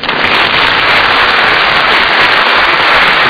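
A crowd applauds loudly and steadily as a performer comes out impersonating a pop singer, a dense crackle of many hands clapping at once that holds an even level for a few seconds with no voices over it.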